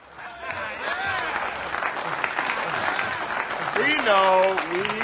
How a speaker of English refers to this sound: Early in the film, two daring members of the police force, played by Samuel Jackson and Dwayne Johnson, The Rock, return triumphantly to police headquarters after catching some bad guys. They're welcomed with a round of applause.